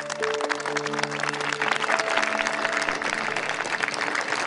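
An audience at a school claps steadily throughout for a student honored with a commendation, a dense, continuous patter of many hands at fairly loud level, with a few faint sustained tones running underneath and no speech over it.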